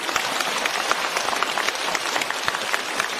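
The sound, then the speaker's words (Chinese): A crowd applauds steadily, a dense wash of many hands clapping at once with sharp individual claps flickering through. It keeps an even, fairly loud level the whole time, with no voices heard. “让我们用掌声感谢卢台长为我们看图腾。”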